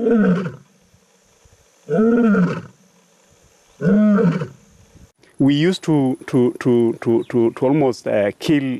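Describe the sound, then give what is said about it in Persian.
An African lion lets out three long, deep roars in steady succession, loud, each followed by a pause; then a voice starts talking rapidly over quieter background. “ما تقریبا هر شیری را که صدای غرشش در امبروسلی می‌شنیدیم می‌کشتیم.”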